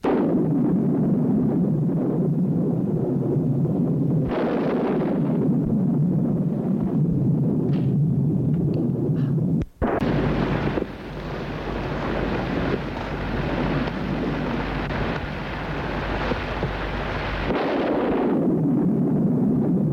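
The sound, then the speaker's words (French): A stormy wash of wind and rain with deep low rumbling; near the middle a sharp thunderclap breaks into a loud, rolling roar that lasts several seconds before easing back. “Et au milieu de l'orage, des éclairs, du tonnerre, dans une chambre éclairée par le passage des éclairs”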